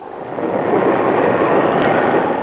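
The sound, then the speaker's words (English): A storm at sea in the Pacific, during typhoon season, breaks into a loud, steady roar of rumbling thunder and rushing wind, sustained without pause, with one brief sharp crackle near the end and no voices. “This storm is liable to break at any moment.”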